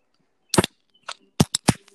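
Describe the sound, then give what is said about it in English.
A beer being opened and foaming over onto the floor, heard as a series of sharp cracking pops, four bursts at uneven intervals, loud and snappy like small firecrackers, with no talking. “Oh, it's exploding. That sounded like firecrackers or like a firework going off.”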